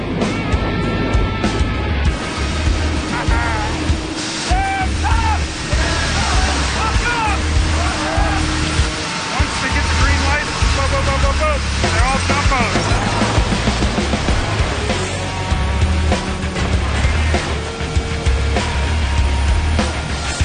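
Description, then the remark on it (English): Loud, unbroken roar inside a Hercules propeller transport plane's cabin with the rear door open as people are dropped out the back: deep engine rumble and rushing wind, with faint shouting voices buried in the noise. “I never thought in a million years I'd be here in a fucking Herc throwing shit out the back, man.”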